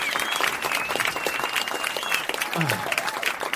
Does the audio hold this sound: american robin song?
no